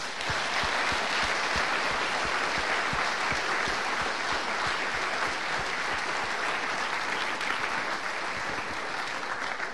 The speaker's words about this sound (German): Und natürlich die Technik und die ganzen Schauspieler. Und ich glaube, das ist mal ein riesen, riesen Applaus wert.